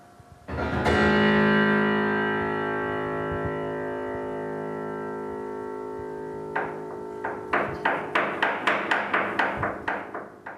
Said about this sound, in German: Auch hier wird geklopft mit Schlägeln im Resonanzraum des Flügels.